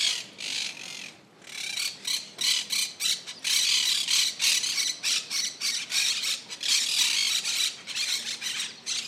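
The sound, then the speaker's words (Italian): A flock of parrots in four large palm trees in front of the entrance to the General Archive of the Indies in Plaza del Triunfo squawks loudly and almost nonstop, their harsh, grating calls overlapping in rapid bursts with only brief gaps. No one speaks. “Davanti all'ingresso svettano quattro grandi palme, popolate di pappagalli.”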